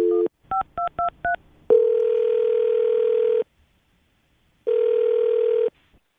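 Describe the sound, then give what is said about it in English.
A quick series of touch-tone dialing beeps as the Brooke and Jubal in the Morning radio show places a phone call, followed by two long, steady ringback tones separated by a pause of silence, clear with no voices. “All right, well, we're going to call Taryn right now and see if we can get her on the phone.”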